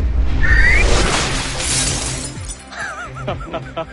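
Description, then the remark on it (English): A high held tone, pitched at the glass's resonant frequency, gives way to a loud burst of shattering glass that crashes and scatters for a second or two, followed by a brief wavering vocal exclamation. “You're hitting a pitch with sound waves that have the same resonant frequency as the glass. That's why it shatters.”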